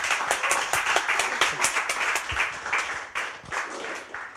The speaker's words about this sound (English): So if you could give a massive round of applause. Thank you very much. To Laurie Penny.